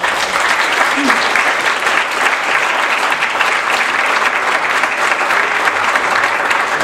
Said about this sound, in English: And I want to have everybody join in applauding Secretary Lam and thank her for her participation in this conference.